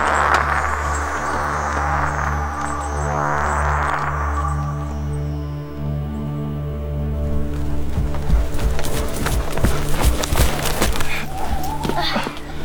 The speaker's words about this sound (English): You brought the great horses? Yes. We'll need supplies and they won't tire.